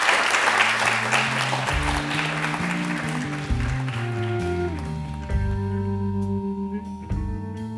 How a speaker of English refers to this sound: Okay, well, thank you all for coming, and let's have another round of applause for our speakers.